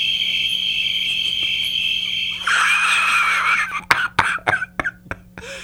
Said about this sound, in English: Crickets!